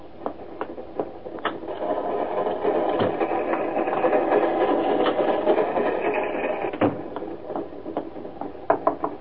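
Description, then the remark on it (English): A passenger train rolls steadily along the tracks, a continuous mechanical rumble punctuated by sharp, irregular clacks of the wheels over rail joints, moderately loud, with no voices. “I heard you were on the train and...”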